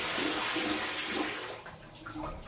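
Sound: shower water running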